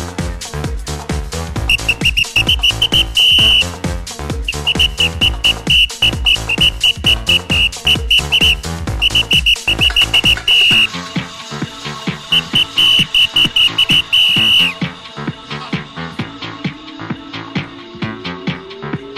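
A bright whistled melody rides on top of a steady house beat played at a Demo Day DJ event, repeating in short phrases with thumping kick drums and dense synths throughout, then the beat thins out near the end.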